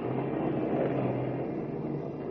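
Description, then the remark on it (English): A car engine drones steadily as the car climbs a winding mountain road in the Blue Mountains through a heavy rainstorm, beneath a dense, continuous wash of rain hiss, loud and unbroken for the whole stretch, with no voices. “And as we join them now, Lois and Horn in Kent's car are laboriously climbing up and down the winding mountain road, fighting their way through a heavy rainstorm.”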